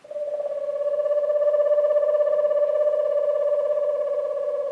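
An eastern screech owl in an eastern woodland at nightfall gives a long, steady trill, a rapid quavering purr held on one even pitch for several seconds with no other sounds around it.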